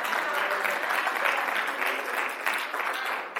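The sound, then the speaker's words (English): A crowd, mostly women, claps steadily throughout, a dense, continuous wash of many hands with a slight rise and fall in loudness and no voices standing out. “Most of the people clapping were women, so let's just say it this way.”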